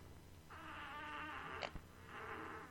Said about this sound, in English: I either fart or shit.